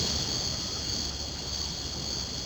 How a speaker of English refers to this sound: And then on the night of your grand opening, imagine the sound of crickets.